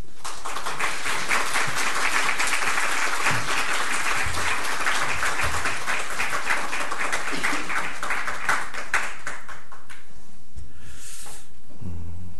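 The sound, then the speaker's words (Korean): A church audience breaks into sustained, dense applause to welcome the pastor coming forward to preach, many hands clapping steadily for about ten seconds before it thins out and fades away. “목사님 나오실 때 저희들이 박수로 환영하겠습니다.”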